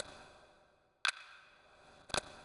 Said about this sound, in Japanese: 時計の音が気持ちいい。昔に戻っていくのが気持ちいい。カチカチカチカチ、時間が戻る。